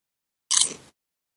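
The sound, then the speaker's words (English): A single crisp, crunchy bite of food, lasting under half a second with no talking around it. “Suddenly I'm hearing munching noises.”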